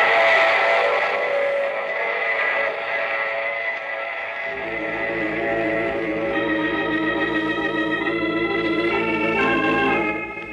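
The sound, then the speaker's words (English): A loud, sustained train whistle sounds with rich, steady tones in the radio drama The Mysterious Traveler, then a low rumbling of a running train joins beneath it as the whistle continues for several more seconds. “I take this same train every week at the same time.”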